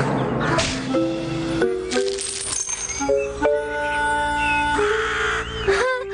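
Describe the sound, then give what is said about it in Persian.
A crow caws harshly several times in close succession, the rough calls set against steady, ringing tones that carry through the whole stretch. “حال پولهایم را از تو کلاغ بدجنس پس میگیر.”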